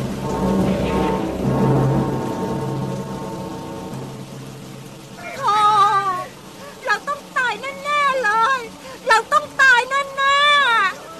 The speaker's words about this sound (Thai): เสียงลมพายุพัดกระหน่ำรุนแรงยิ่งขึ้นเรื่อยๆต้นไม้อาคารหินผาและพื้นโลกต่างถูกพายุโหมพัดกระหน่ำพังพินาศท่ามกลางเสียงวีดวิวของพายุรายนั้น